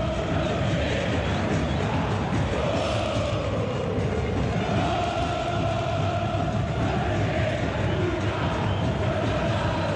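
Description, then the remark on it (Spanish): A large stadium crowd roars and jeers steadily after Central player Ibarra is sent off with a red card for a hard foul, a dense, loud wall of voices with some rising chant-like tones, nobody speaking distinctly over it. “Y la gente responde. Escuchemos a la gente.”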